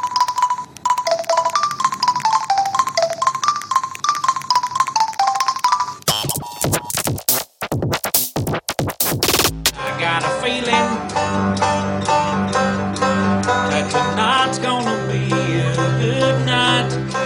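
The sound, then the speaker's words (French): A simple song melody of electronic keypad beeps, played live by a man pressing the keys of two mobile phones, one in each hand, plays in quick stepping notes for several seconds, followed by a burst of clattering noise and then a full instrumental music passage. “Eh ouais, deux téléphones portables, un dans chaque main, et le mec, il tape sur les touches en live.”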